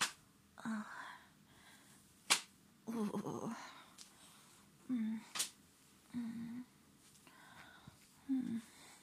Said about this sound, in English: I'm using my flogger to just, slap my pussy a bit now.